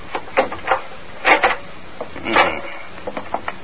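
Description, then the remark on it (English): A door at McVeigh's house being opened and closed: a run of wooden clunks and handle rattles, with a couple of longer scraping rattles in the middle, then a few lighter taps. No voices are heard. “I'll try the door. Don't knock, it may be open.”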